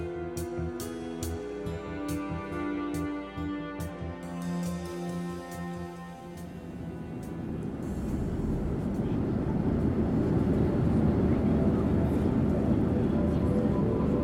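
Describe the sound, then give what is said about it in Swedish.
A steady, low roar of an airplane in flight, on a 1983 flight to South Dakota, swells in after a few seconds of tonal, music-like sound, then holds as a loud, continuous cabin-like drone to the end. “Robert sitter på ett flygplan till South Dakota och ska hälsa på vänner när han börjar må dåligt.”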